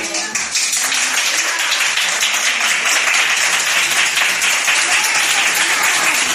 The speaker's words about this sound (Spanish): Esta ovación recíproca entre varios sanitarios y un paciente se ha producido justo a la salida de la UCI